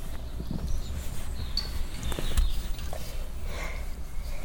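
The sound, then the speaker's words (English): Faint, scattered birdsong chirps and whistles drift through steady outdoor background noise, with a few soft knocks and rustles and no talking. “Oh, listen to those birds.”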